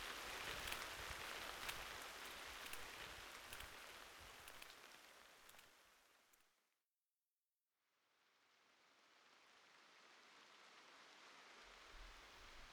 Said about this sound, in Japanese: 雨だから誰もいませんね。貸し切りみたい。